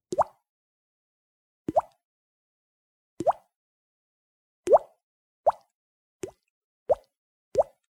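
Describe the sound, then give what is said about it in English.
A person mimics a dripping faucet with their mouth: eight wet, hollow plops with a quick upward pitch flick, spaced unevenly and speeding up toward the end, with silence between drops. “This is the dripping faucet.”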